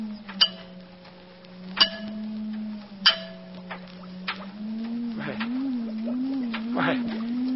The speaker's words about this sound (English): Now, notice what happens when I tap on the glass jar.